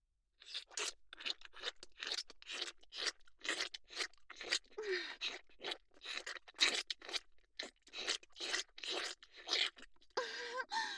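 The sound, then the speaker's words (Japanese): Wet mouth sucking and smacking sounds from oral sex (fellatio) repeat in a quick, steady rhythm, roughly two per second, each a short moist burst at moderate volume with no talking. “私がお口でしてる時の音、ドキドキするんですか？”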